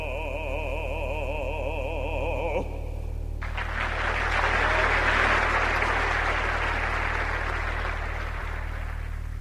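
A warbling sung note trails off and the song ends, then audience applause breaks out between songs at a concert, continuing as dense, steady clapping for several seconds over a low constant hum.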